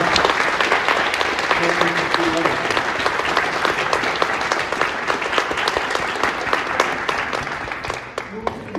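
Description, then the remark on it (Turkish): Sustained applause from a large audience of students at the end of a talk, a dense wash of many hands clapping steadily at full volume for the whole stretch, with a faint murmur of voices underneath. “Şimdi öğrenci arkadaşlardan güçlü bir alkış istiyoruz.”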